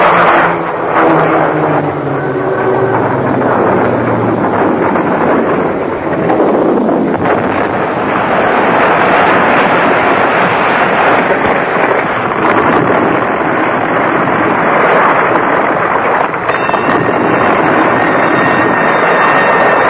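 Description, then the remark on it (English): An airplane going down in a crash, its engines a loud, continuous roar with whining tones that sweep downward early on, the rushing noise filling the whole stretch without a break and no voices. “Look at the plane! There's something wrong! She's crashing!”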